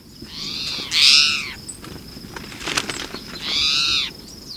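A towhee calls twice, each a loud, raspy, downward-arching note about two and a half seconds apart, over a steady hiss of background noise with a few faint clicks between.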